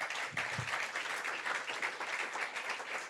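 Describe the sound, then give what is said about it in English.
A crowd applauds for their fathers, many hands clapping at once in a dense, even wash of sound that holds at a constant loudness throughout, with no voices standing out. “Can you clap for our fathers, please?”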